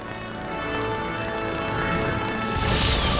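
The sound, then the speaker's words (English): Loud, swelling orchestral music builds steadily, then near the end a bright, hissing crash of cathedral windows shattering bursts in over it. “Light explodes from Fiona in waves, shattering the cathedral windows.”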